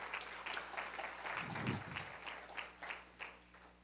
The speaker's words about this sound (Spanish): Un aplauso fuerte, Señor, se lo ofrece, Señor.